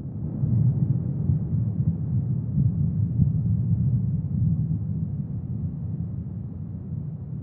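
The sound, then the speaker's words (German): A recording slowed down to lower its pitch, with reverb added, imitating thunder: a deep, muffled rumble rolling on steadily for several seconds with no sharp crack and no voices. “Und mit ein bisschen Hall auf der Aufnahme klingt das Ganze dann doch schon sehr viel mehr nach einem Donner.”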